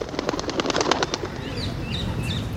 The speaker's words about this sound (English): Another bird I'm really drawn to are the parakeets in London.